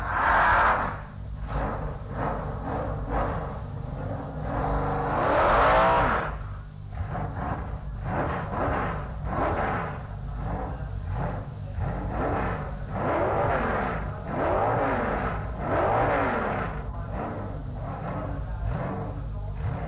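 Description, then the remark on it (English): A drag racing car's engine revs loudly and continuously, its pitch repeatedly climbing and falling in harsh bursts as the throttle is blipped, dominant with no voices, as the car pulls up into stage and builds revs before a solo run. “Dixon looks as though he's going on a solo pass.”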